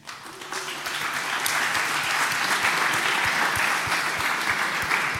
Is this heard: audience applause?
yes